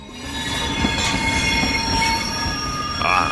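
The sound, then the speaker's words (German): A train enters a station with a sustained, high-pitched metallic squeal of wheels on rails, loud, over a steady low rumble, rising into a sharper screech near the end. “Wenn Sie Pech haben, dann fährt Ihr Zug so in den Bahnhof ein.”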